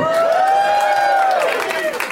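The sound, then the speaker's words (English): A loud live audience in a very hot room cheers and applauds for the heat in a dense, continuous roar, with a long, high-pitched whistle-like tone rising and falling over it for about two seconds. “Make some noise for the heat, everybody!”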